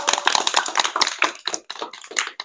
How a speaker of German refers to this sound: Und ich finde, da kann man mal einen großen Applaus